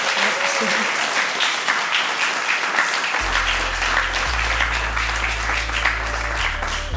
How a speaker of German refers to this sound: Großen Applaus für Sie.